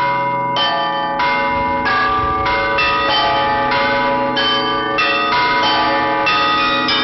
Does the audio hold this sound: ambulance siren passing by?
no